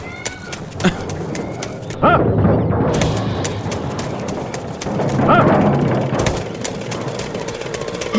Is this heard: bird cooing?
yes